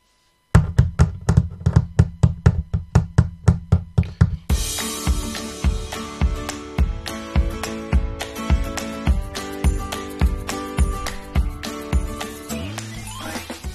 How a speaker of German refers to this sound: Doch dann hörte er ein lautes Klopfen über sich.